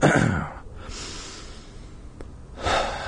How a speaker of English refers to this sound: We're gonna take a breath because I just called myself dude instead of dune.